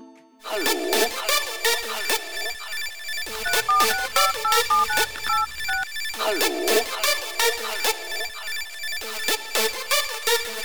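A loud telephone rings continuously in rapid trilling bursts, with a deep bass thump joining for a few seconds midway before the bright ringing carries on alone.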